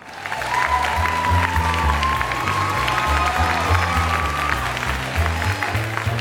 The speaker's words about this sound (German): Applaus.